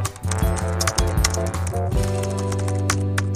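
Quick, irregular clicking of someone typing a prompt on a computer keyboard, over a steady background of low music. No one speaks.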